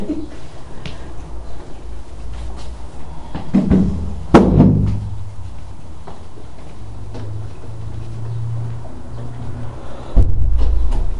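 A door is shut by the speaker with one sharp, solid click and a brief low thump, set against a steady hum with faint rustling and a low rumble toward the end.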